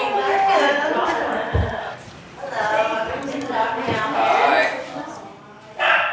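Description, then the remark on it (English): A small corgi barks and yips in a string of sharp, excited bursts inside a gallery, with indistinct voices and background noise mixed in behind. “Look at this little corgi guy.”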